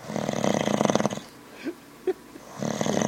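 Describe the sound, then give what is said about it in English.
A loud, rasping snore with a wheezy, buzzing texture, followed by two short snorts in a quiet gap before another drawn-out snore begins. “At least my snore was kind of like constant.”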